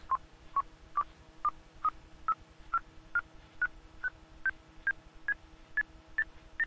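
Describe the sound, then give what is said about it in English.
A steady series of about fifteen short electronic beeps, evenly spaced, each slightly higher in pitch than the last, climbing gradually over several seconds with a faint hum underneath: progress beeps while Windows copies an audiobook onto a network drive, rising as the copy reaches 100 percent. “And you can hear the beeps going up as it gets to 100.”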